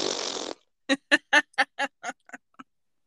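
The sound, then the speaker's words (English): A sloppy fart noise made with the mouth: a half-second wet, spluttering raspberry, then about eight short honking, quack-like bursts in a steady rhythm that gradually fade. No talking. “His is just a sloppy fart mess from his face.”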